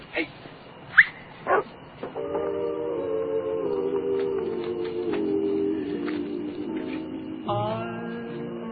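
A dog lets out three sharp, separate barks, then breaks into a long, drawn-out whimpering whine that wavers on until the end, fairly loud.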